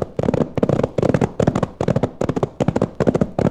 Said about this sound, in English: Those shots came from just ahead of us.